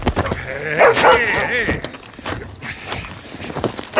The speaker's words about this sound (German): Hey. Hol den Hund da runter. Was? Ich sagte, hol den verdammten Hund da runter.